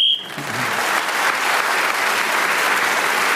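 A short, shrill whistle blast, blown to end a round of a game, sounds once at the start, immediately swallowed by loud, sustained applause that carries on steadily to the end.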